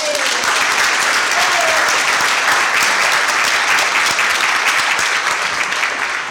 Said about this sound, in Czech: No a ještě si speciální potlesk pro jednu velmi důležitou osobu, která je teď duchovně mezi námi